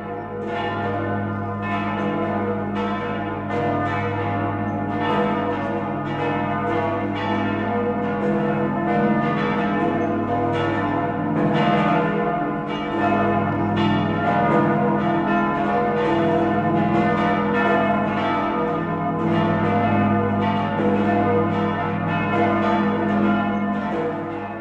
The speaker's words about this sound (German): Nun läuten die Glocken berühmter Benediktinerabteien die Weihnacht ein.